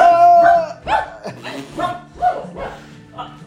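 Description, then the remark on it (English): A person imitates a dog, letting out a quick series of about half a dozen voiced barks and yips in an uneven rhythm, fairly loud. “Bark, bark. Yeah. Would you accept me if I were a dog?”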